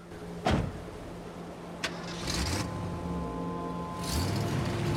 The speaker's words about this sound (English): her father climbs into his truck and drives off.